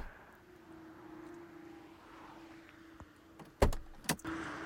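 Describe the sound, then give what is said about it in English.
A police car's power window motor whines steadily under a low interior rumble, then two sharp door thumps land in quick succession near the end, as someone gets into the back of the police car. “You're getting into the back of a police car.”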